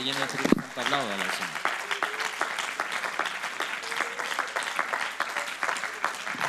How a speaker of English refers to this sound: If you have a desire to be full of the Holy Ghost, why don't you give him a hand clap tonight?